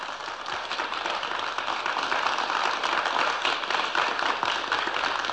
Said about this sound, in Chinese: 请大家鼓掌。